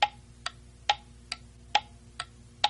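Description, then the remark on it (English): A clock ticks steadily at about two beats per second, alternating heavier and lighter clicks in a tick-tock rhythm. Fairly quiet over a soft low hum, with no voices. “And they tried the clock.”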